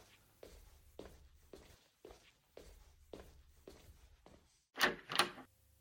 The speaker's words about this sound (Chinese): 啊，谁呀？一大早上就敲门。